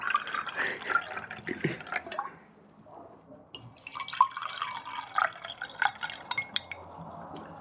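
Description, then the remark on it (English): Water is poured into a glass, with gurgling splashes and scattered drips in short bursts, a brief pause, then more pouring as the glass fills. “You want some more water? Yes, please.”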